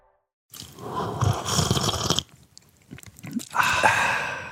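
Loud, close slurping in two wet, noisy bursts: a long draw of about two seconds, a short pause with small smacking sounds, then another slurp that runs to the end.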